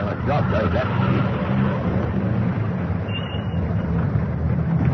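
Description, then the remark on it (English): A police car's engine rumbles low and steady for several seconds, a continuous motor drone with no siren audible, as the car approaches and drives past. “Hey, here comes a police car.”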